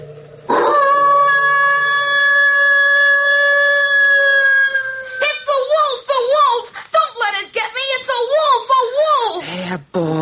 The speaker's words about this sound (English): That's only our neighbor's dog baying at the moon.